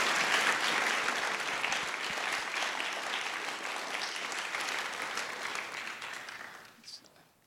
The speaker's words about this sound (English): Let's give all of our team a round of applause.